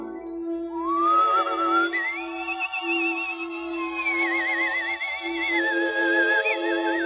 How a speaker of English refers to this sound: Play the theme song, Mr. Conductor. Play it sweet, play it smooth. Make music a man can whistle.